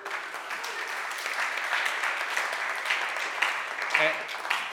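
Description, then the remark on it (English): Steady audience applause for the speaker's wife on his 21st wedding anniversary, a dense wash of many hands clapping at an even level for several seconds, with a brief voice cutting through near the end. “Yeah, you're clapping for my wife because she has to put up with me.”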